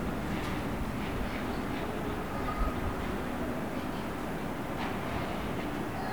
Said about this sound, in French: J'entends un avion.